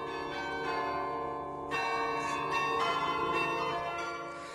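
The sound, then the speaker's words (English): A carillon plays Radio Netherlands' shortwave interval signal, Merk Toch Hoe Sterk, for the station's last broadcast: a slow, steady melody of overlapping bell tones with long ringing sustain, moderately loud, each new strike layering over the fading resonance of the last. “It's Merk Toch Hoesterk, our interval signal that would announce Radio Netherlands' arrival to the shortwaves.”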